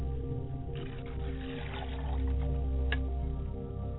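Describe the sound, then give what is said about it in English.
Libation is poured to the north as part of a ritual prayer, in a steady, low splashing stream over a continuous background hum, with a few faint, brief clicks and no talking. “And libation is being poured to the north, and I say, Ashe.”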